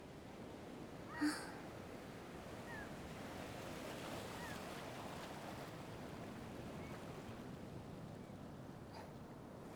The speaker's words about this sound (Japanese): あとは波の音だけ。